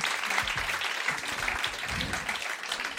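Steady, dense applause from a comedy show audience, a continuous crackle of many hands clapping at even loudness, with a few faint voices and cheers mixed in underneath.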